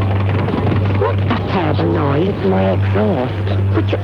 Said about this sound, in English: Terrible noise, my exhaust, which you only had it fixed 6 months ago.